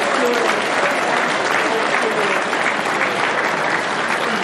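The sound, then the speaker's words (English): An audience claps steadily for several seconds when asked to by the presenter, a dense, sustained wash of many hands at even loudness, with no talking over it. “All right, now I just need you to start clapping. Just start clapping. Okay, now keep clapping.”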